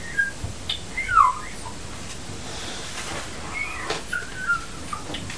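A few short, thin whistled notes with sliding pitch, scattered with gaps between them. The whistling is fairly quiet over a faint background hiss, with no one talking.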